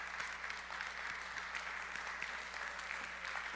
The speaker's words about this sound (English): Come on, give the Lord a clap offering of praise.